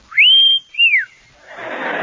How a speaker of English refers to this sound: Wish I could whistle. I'll try.